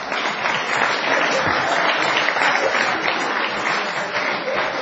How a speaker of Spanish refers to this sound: ¿Y ustedes qué aplauden, caballero?